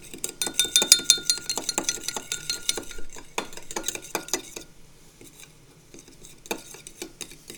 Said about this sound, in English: And we're going to put a little bit of Mochiko in the bottom of the measuring cup. Maybe about a teaspoon. And we're going to add a little bit of water, about the same amount of water, and stir that up. Stir, stir, stir.